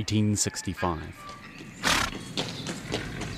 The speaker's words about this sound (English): Titor Hanatoa is riding his horse along a track near the bank of the Tangahoe River in Taranaki